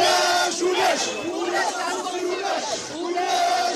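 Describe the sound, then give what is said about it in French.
Striking public radio journalists shout their anger against censorship outside the station's offices, many voices raised together in loud, sustained cries that swell and dip in waves for several seconds. “Mardi 26, la radio publique se met en grève et crie sa colère contre la censure au pied des locaux.”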